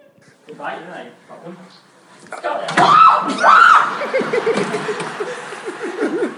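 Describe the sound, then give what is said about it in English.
A man lets out two loud, startled screams in quick succession as a small bird flies in a room, with quieter vocal noises before and excited voice sounds trailing after. “That wasn't my wife screaming.”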